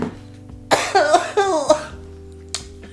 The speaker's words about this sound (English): It's like slow burning. Like, yeah, like I'm hitting it twice. And that's when you know it's good. He just coughs.